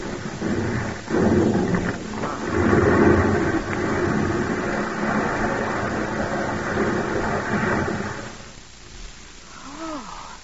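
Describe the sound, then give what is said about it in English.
A landslide rumbles down in a deep, thundering roar that surges and churns steadily for about eight seconds, then drops away to a quieter hush. “Oh, Paul, that's a slide.”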